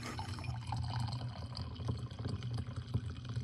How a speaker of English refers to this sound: let me pour you each a cup of delicious vanilla chai tea.